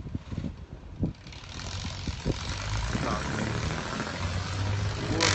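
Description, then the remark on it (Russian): A car with a Mexican flag drives along the street, its engine rumble swelling steadily as it approaches and growing louder toward the end, with a brief spoken word early on over outdoor background noise. “А смотрите, какая машина классная идет.”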